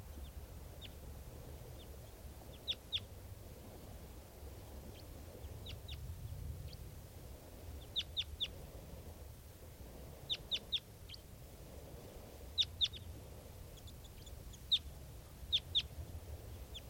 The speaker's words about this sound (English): And this is another one of the birds. Looks like an adult male here. This is one of the birds that's calling here.